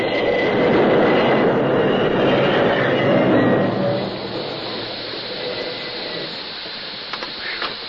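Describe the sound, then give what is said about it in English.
A train rumbles loudly, its heavy rolling clatter holding steady for a few seconds, then dropping off sharply to a low, quieter hum as it slows and comes to a complete stop a few yards short of where a bridge is missing. “The train responded slowly to his efforts until just a few yards from the gaping space where the bridge used to be, it came to a complete stop.”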